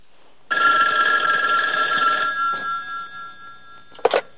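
telephone ringing

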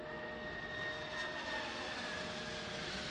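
airplane engine drone

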